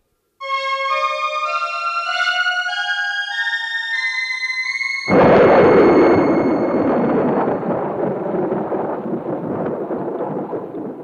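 A few seconds of sustained, gliding musical tones give way to a sudden loud thunder crash, followed by steady, heavy storm rumbling and rain-like hiss through to the end.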